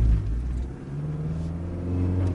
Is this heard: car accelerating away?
yes